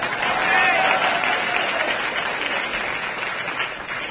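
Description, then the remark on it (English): Steady applause from an audience, a dense wash of many hands clapping at an even, fairly loud level for several seconds, tapering slightly toward the end. “Pauses for audience applause, not a subject.”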